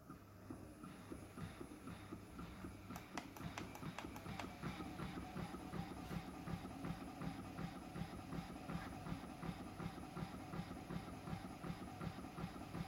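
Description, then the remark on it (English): A Lovent Solus Pro toy, set up on a table clamp, runs with a steady, low mechanical hum and a soft rhythmic whir, with a brief cluster of faint clicks early on. No one speaks. “What I will do is turn the Lovent Solus Pro on and let you listen to how quiet the toy is.”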